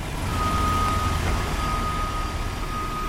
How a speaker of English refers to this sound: We're watching a big yellow dump truck drive through the river right now.